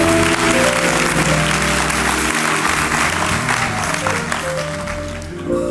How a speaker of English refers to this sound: Will you clap your hands and give God a praise today?